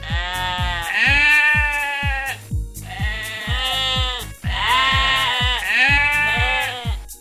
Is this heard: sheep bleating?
yes